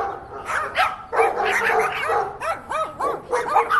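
Dogs bark and yip in quick, overlapping bursts, with some high whiny yelps in the mix. The barking is fairly loud, with no talking.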